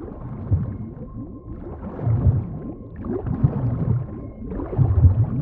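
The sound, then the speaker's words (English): Deep, moaning blue whale calls swoop and groan in several long, rumbling phrases, fairly loud, with a faint steady hum beneath and no one speaking. “Setting menu to Blue Whale.”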